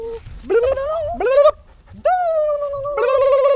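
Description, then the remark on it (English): A Jack Russell Terrier mix dog named Quax sings in drawn-out, rising howls, four long tonal yowls with a short pause between them, fairly loud, with no talking over it, as her owners coax her to sing during a group dog walk at the De Cordova. “trying to get their Jack Russell Terrier mix, Quax, to sing.”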